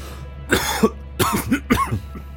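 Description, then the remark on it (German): Three harsh coughs in quick succession, fairly loud, with short pauses between them over a low steady hum, caused by dusty air. “Die Luft ist staubig. Ihr müsst husten.”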